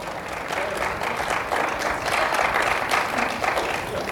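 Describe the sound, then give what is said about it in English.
A church audience claps steadily for their pastor's new home in Germantown, with dense overlapping hand claps forming a continuous, fairly loud wash of applause that holds level throughout, with no voices standing out. “Be happy for your pastor, every last one of you clap.”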